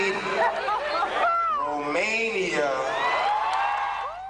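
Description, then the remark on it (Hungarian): The audience at a singer's 2008 concert in Bucharest, Romania, protesting after he greeted them as Hungary: a loud, unbroken mass of overlapping voices, with drawn-out shouts and whoops rising and falling in pitch over the steady crowd roar. “Csak a közönség tiltakozásából jött rá, hogy tévedett.”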